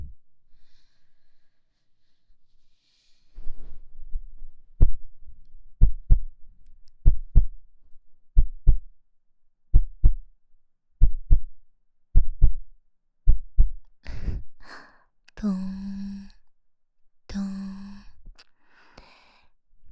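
A steady heartbeat of paired low thumps repeating about once a second, presented as a runner's heartbeat at a sports meet during an 800-metre race, then heavy, breathy gasps and panting burst in near the end.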